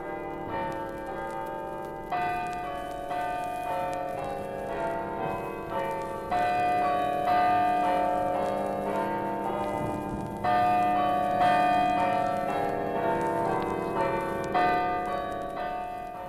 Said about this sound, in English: And here you may hear a welcome from the chimes of the Church of the Immaculate Conception, the joy bells of Wexford.